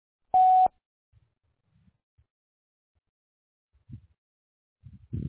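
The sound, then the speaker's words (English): A single loud electronic voicemail beep marking the start of message recording, a steady pure tone lasting about a third of a second, followed by near silence with a few faint, low rustles and soft thumps. “Maybe leave your name and phone number after the beep, and they will give you a ring-a-ding-ding as soon as they can.”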